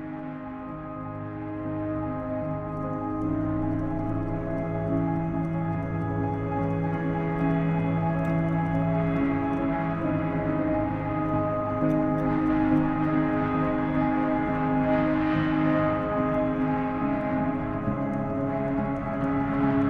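A film score passage of sustained, layered tones that swell gently and hold at a steady level for the whole stretch, with no voices over it.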